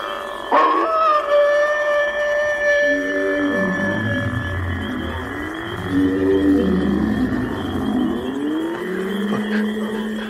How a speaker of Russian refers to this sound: Кто это там воет, Бэрримор?